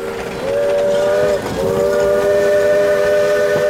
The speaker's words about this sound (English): For the next six decades, the train came through the town of Point Reyes Station several times a day, on tracks which ran right down the main street. The hissing, steaming engines transported lumber from the Russian River